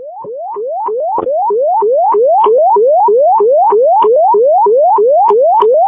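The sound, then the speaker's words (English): A loud fire dispatch alert tone, retoned for a call to 577 Crystal Point Drive: a rapid electronic whoop that sweeps upward in pitch over and over, about sixteen steady repeats in six seconds, with no voices. “We did not get tones for that 577 Crystal Point Drive. Can you retone that?”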